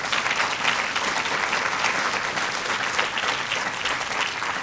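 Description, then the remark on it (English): A crowd applauds steadily, dense clapping filling the whole stretch at an even, fairly loud level without any voices rising above it. “My higher power appreciates that applause.”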